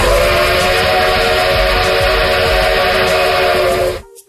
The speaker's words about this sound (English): You know what? That's a good train, man. Yes. That's a strong train. That sounds like a back-in-the-day train when the robbers would come and rob the train. Right? That's like an 1800s type of train. It's a good train right there.